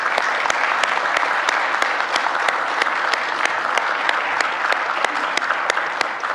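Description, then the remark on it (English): A large audience claps steadily and loudly for several seconds for the fall marching band members, a dense continuous wash of applause with sharp individual claps standing out, and no voices heard over it. “So these are all of the fall marching band members, and we can give them a round of applause.”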